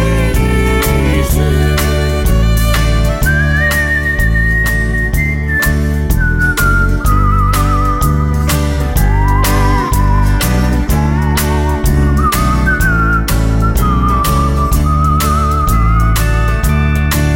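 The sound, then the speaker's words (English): Someone whistles a slow, lilting hymn melody with long sustained notes and gentle slides, carried clearly over a steady, full instrumental accompaniment with a soft beat. “Grandma whistling, what a friend we have in Jesus.”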